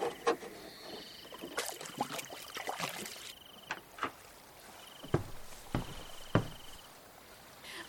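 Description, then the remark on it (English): Oars dip and splash through water in irregular strokes, moderately loud, as a person rows a small boat through the tidal Hara Forest on the Persian Gulf, with soft trickling between strokes and a thin, steady high-pitched whine in the background. “the water is rising and I can gradually ride a boat for roaming in the forest”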